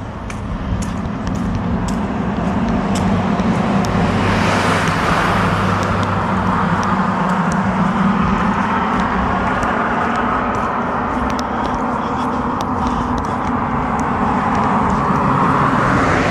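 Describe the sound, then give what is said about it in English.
Continuous road traffic rumbles past, a dense, loud wash of engines and tire noise that swells and fades as vehicles go by, with a passing whoosh midway. “Trying to talk over all this traffic is kind of annoying.”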